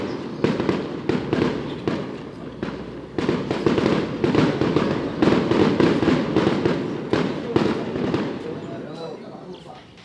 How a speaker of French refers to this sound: Il y a des pétards. Il y a des pétards. La semaine des festivités commence bientôt.